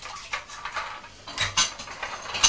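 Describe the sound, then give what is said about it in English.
A toy crane with a hook spins round with a dry plastic clicking and rattling, irregular bursts of small mechanical ticks rising and falling in loudness, with no voices. “It spins round.”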